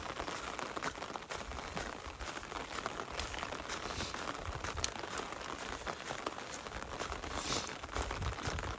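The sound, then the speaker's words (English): Rain falls steadily outdoors on a cold, misty day during a hike, a continuous, even hiss with a dense patter of drops and occasional soft crackles. The level stays constant and moderately quiet, with no voices. “And as miserable as hiking in the rain and the cold is, it's not as miserable as you not being here.”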